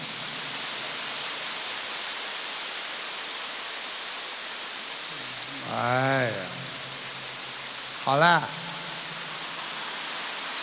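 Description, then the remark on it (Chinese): A crowd claps in a dense, steady wash of applause that carries on for the whole stretch, with a man's voice cutting in briefly twice over the clapping. “好像我跟你们要鼓掌一样，我没有跟你们要鼓掌，你看你们停不下来了，其实你们是锻炼。有一种锻炼叫鼓掌，因为十指连心，心开心才会鼓掌。”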